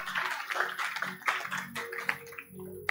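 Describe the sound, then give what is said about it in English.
An audience clapping their hands during a sermon, a dense, continuous patter of many hands that stays fairly steady for the whole stretch, with a low sustained hum underneath. “Those who are clapping, may God bless you.”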